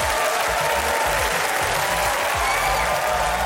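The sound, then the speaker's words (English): A steady round of applause from a crowd, dense and loud, with many hands clapping together in a continuous wash of sound and no voices standing out. “So, everyone, round of applause.”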